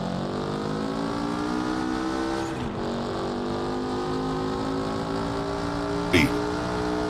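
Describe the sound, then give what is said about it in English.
A powerful V12 sports car engine roars, holding a loud, steady, high-revving note for several seconds, with its pitch dipping slightly and a sharp burst of noise near the end. “Go away, we are told, and take your carbon fibre and your fire-spitting V12s with you.”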